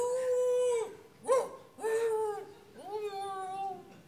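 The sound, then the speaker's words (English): A dog howls in long, drawn-out wails, three or four mournful cries in close succession with brief breaks, each sliding down in pitch at the end, fairly loud and with no talking. “The dog again.”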